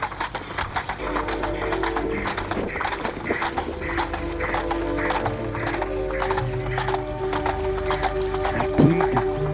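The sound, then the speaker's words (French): Steady clip-clop of horse hooves on a hard surface as a horse-drawn cab (fiacre) departs, an even rhythmic trot, with a rolling rumble beneath and a brief neigh near the end. “Le fiacre est parti.”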